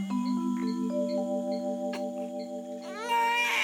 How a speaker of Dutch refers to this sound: Ze wil weten waar dat gehuil vandaan komt.